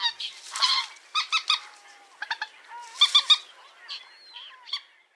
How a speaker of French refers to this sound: Vous entendrez aussi facilement la poule d'eau, oiseau totalement noir, hormis son bec pointu rouge avec l'extrémité jaune.